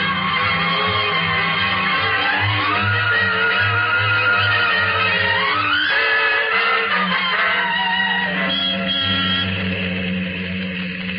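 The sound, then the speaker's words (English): A car engine roars at speed while tires squeal in long, rising and falling shrieks as the car skids hard around a corner; loud, with no talking. “Not so fast. Don't turn the corner so close.”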